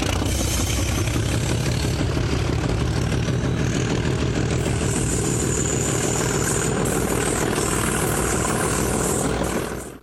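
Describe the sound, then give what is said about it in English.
A Class 37 diesel locomotive engine drones steadily with a deep, throbbing low rumble and a harsh mechanical rattle on top, staying loud throughout before cutting off abruptly at the end. No voices. “However, I did catch the Class 37s one more time, which was very pleasant.”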